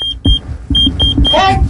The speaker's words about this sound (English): Can you hear that? Sir, I really don't want to hear this. Somebody keeps paging me and my ass keeps beeping.